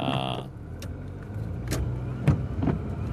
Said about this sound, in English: Because there's something wrong with my car, and I'm just, and my windshield is really, really messy, so I'm going to try to clean my windshield here a little bit while I'm at it.